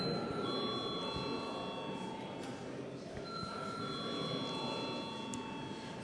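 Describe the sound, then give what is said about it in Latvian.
A bell rings steadily for several seconds, its bright, sustained metallic tones layered over constant background noise and faint murmuring. The bell is rung in a legislative chamber to call deputies to a vote on approving a district court judge. “Lūdzu zvanu.”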